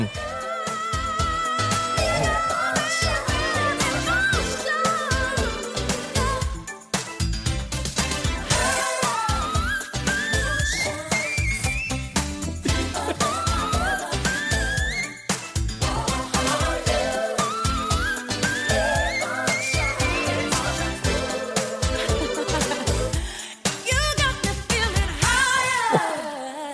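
A full pop band plays steadily while a female voice climbs into extremely high, piercing whistle-register runs, darting up in quick ornamented flourishes above the dense, loud accompaniment.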